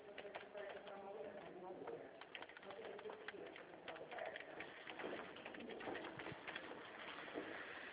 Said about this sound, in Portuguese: Ai, tá chovendo aí? Tá. Tá? Aqui também tá. Chovendo bastante, né?